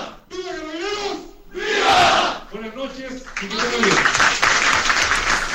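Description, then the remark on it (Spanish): A lone voice, Carabineros general director Mario Rosa, calls out the rallying cry "¡viva Carabineros!" and a crowd answers with a loud, unified shout of "viva," followed by another call and a sustained roar of cheering voices. “Así es que sigamos unidos y si me ayudan a gritar, ¡viva Carabineros! ¡Viva!”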